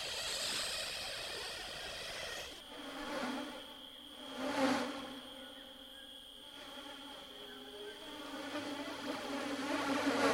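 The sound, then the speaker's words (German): A dense, continuous buzzing of a swarm of stinging insects with piercing proboscises, steady high-pitched whine with layered droning tones, swelling briefly louder a few times and building toward the end; no voices. “einem mit ihrem Saugrüssel, der in einem Stachel ausläuft, durch die Kleider stechen und in Nase und Mund kriechen, sodass man husten und niesen muss, sobald man in freier Luft spricht.”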